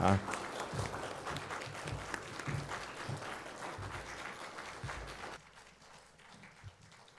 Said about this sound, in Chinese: 我们给一些掌声，然后等他们一路走落台，直到他回位，好不好？少少支持来的而已。